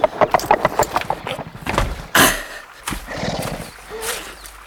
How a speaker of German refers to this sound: Endlich, bei Einbruch der Dämmerung, vernahmen sie den Hufschlag Hatatitlas.